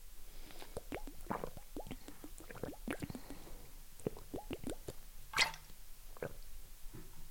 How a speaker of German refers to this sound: So, ich trinke jetzt einen Schluck Wasser. Moment. Prost.